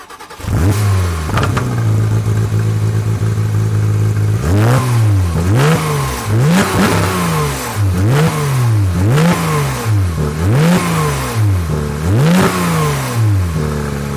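car engine revving loudly

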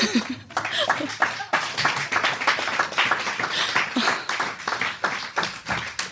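audience clapping

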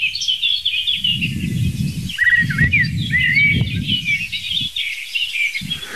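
song thrush singing

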